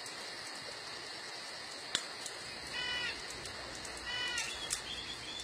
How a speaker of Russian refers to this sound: Отдаленный крик ночной птицы на какое-то мгновение всколыхнул тишину, окутываемый уютный мирок, царящий вокруг костра, сбил с мысли рассказчика